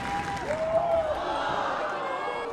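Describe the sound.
An indoor gym crowd claps along in a steady rhythm for an athlete gearing up for the Alaskan high kick, who stomps a foot in rhythm to lead it. The sound is dense and echoing, with scattered voices and cheers rising through the din.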